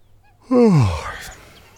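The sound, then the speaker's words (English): A person imitates how a rabbit yawned: one drawn-out, breathy vocal groan that slides steadily downward in pitch and fades into a soft exhale, fairly loud. “Our audience, the rabbit, yawned like this.”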